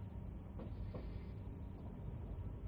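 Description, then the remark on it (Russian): Train wheels clack twice over rail joints, close together, against a steady low rumble of a new railway carriage moving through rain. No voices are heard. “Дождь, стук колес навевали мысли о том, кто я есть и куда движусь.”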